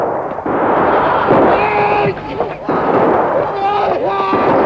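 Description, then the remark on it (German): A loud, dense volley of musket fire from Captain Ahab's ship, the Albatros, fired on command, a sustained crackling roar of overlapping shots, with men shouting through it. “Legt an! Feuer!”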